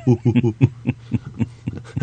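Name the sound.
person imitating monkey sounds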